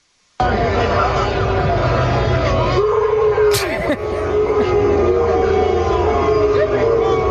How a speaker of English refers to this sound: He got booed, though. This is him getting booed. This was funny.